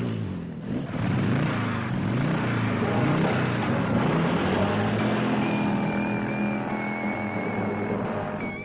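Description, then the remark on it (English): A motorcycle engine revs loudly and continuously, its pitch rising and falling as the throttle opens and eases, with a steady rumbling roar throughout and no voices. “wrapping your legs around a tornado of pounding pistons, like the girl on a motorcycle”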